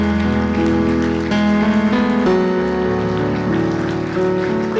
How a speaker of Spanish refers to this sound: Iglesia, podemos dar un aplauso al Rey de Gloria. Aleluya.